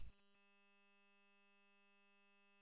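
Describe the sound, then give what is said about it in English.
A quick burst of static crackle gives way to a steady, unbroken buzzing tone held at constant level for over two seconds: a radio dead key, with someone keying a transmitter open without speaking. “somebody's throwing dead keys out here.”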